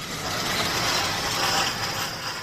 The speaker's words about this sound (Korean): 두 번째 이야기, 위기를 기회로 삼은 자동차 정비소. 버지니아주 페어팩스의 오토바디 월드 자동차 정비소.